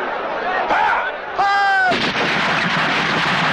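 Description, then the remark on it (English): A rifle volley from Richard Attenborough's film Gandhi, depicting British troops firing on a crowd of Indians in a walled garden in Amritsar in 1919, cracks out in loud bursts; a high wailing cry briefly rises above it, then dense, continuous gunfire rattles on amid a noisy commotion. “British troops fired on a crowd of thousands of Indians.”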